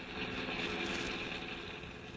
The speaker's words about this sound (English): But Ranger Bill's niece, June, his two young assistants, Joe and Sam, have no knowledge of what's taking place above Storm Creek as they travel along a forest highway in the pickup truck.